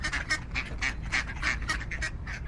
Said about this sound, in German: Nanu, es quakt ja schon wieder. Ach ja, jetzt aber die endgültige Erklärung. Kurz vor Spielende verläuft sich eine Entenfamilie vom benachbarten Olympiasee ins Stadion. Eine der Wildenten watschelt sogar über den Spielfeldrand.